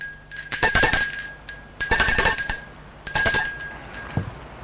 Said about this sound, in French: Dans la cour, elle va vers le perron de la maison. Monte sur le perron, sonne à la porte.